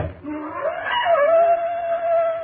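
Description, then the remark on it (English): A black panther's scream: one long, wailing cry that swoops upward, then holds a steady, piercing pitch for a couple of seconds over a faint rough hiss. “Prophet, why do the panthers scream?”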